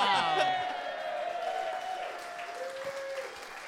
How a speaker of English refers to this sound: The passengers applauded, much like that